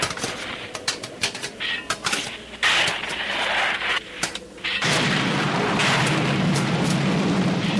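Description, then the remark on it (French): Thunder rumbles through a series of sharp cracks and booms, then swells into a sustained, loud roaring rumble that fills the second half. No one speaks. “On dirait qu'il va y avoir de l'orage.”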